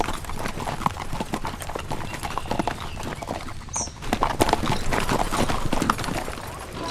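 Many horses' hooves of riding gunslicks and cowboys clip-clop in a busy, overlapping rhythm as a horse-drawn buckboard wagon rattles back to town among them, with a brief whinny partway through and faint voices underneath.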